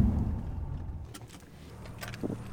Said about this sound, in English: We get out of the car near the MOT Charter School